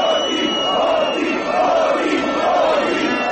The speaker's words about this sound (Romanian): Peste 50.000 de oameni au ieșit din nou în stradă în București duminică seara pentru a menține presiunea asupra guvernului Grindeanu. În Piața Victoriei, mulțimea a format un tricolor uman, a scandat jos corupția și hoții.